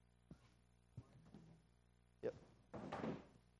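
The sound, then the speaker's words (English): A chair is moved: a few hollow knocks and bumps, then a short, loud scraping drag across the floor, with no one talking. “Let me pull this chair over here.”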